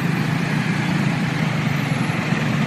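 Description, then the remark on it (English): Steady low rumble of idling cars and trucks barely moving along a congested city street, a dense continuous engine drone with no voices, constant throughout. “My saunter along the street is faster than the pace of the barely moving traffic, recently ranked the worst in the world in a GPS study, and it will choke the city more and more before it gets better.”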